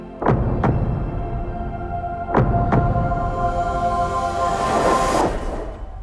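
heartbeat

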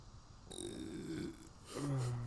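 burp

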